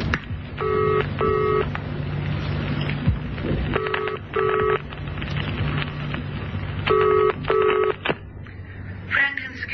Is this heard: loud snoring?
no